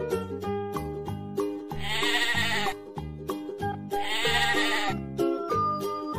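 Two drawn-out, wavering sheep bleats ring out, evenly spaced, over a bouncy, rhythmic musical backing that continues steadily throughout.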